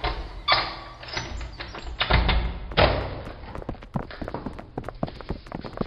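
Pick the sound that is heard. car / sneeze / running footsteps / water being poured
running footsteps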